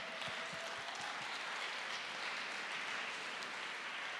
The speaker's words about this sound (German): Und dann, ja genau, Applaus.